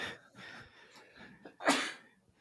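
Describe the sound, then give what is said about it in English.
A single loud sneeze bursts out sharply about two-thirds of the way through, preceded by a quick breathy intake and followed by fading breath. “Bless you.”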